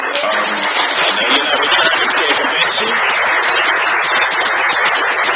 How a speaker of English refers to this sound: All right. Thank you. We want to give a round of applause